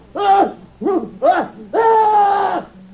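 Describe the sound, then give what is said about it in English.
A horrible scream: three short, loud, strained cries rising and falling in pitch, then a longer sustained wail held at a steady high pitch, with no talking around it. “That scream! It was horrible.”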